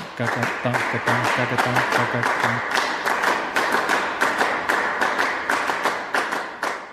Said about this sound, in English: But with minimalist music, they were getting back to the sheer, pure communication of rhythm. It was free of emotion, free of melody, free of harmony, and coming back to rhythm. And the clapping music basically has a rhythm that goes...